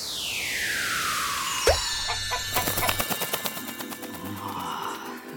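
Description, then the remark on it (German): A black flightless bird, likely a chicken, clucks in a quick, agitated burst of repeated clucks, fairly loud, right after a falling whistle and a sudden thump. “Ist aber ein Vogel. Kann aber gar nicht richtig fliegen.”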